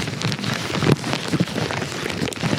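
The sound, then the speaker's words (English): Butcher deli paper crinkles continuously in a dense, crackly rustle, with a few sharper crunches standing out partway through. No one speaks. “The butcher paper, that's what it's called. The deli paper.”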